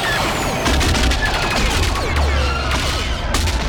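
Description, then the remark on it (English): Rapid, overlapping bursts of laser cannon fire from starfighters shooting at a claw craft in a space battle, each blast a sharp zap that sweeps downward in pitch, layered over a constant loud rumble of battle noise with no pauses. “Jaina and Zek opened fire.”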